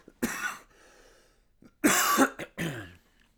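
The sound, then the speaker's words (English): A person coughs in harsh bursts: one loud cough, a pause with a wheezy breath, then two more rough coughs in quick succession, no talking. “I got a cough, guys. I'm sorry.”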